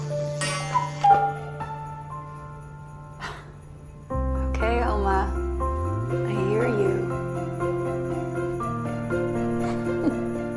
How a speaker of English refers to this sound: A cuckoo clock chimes.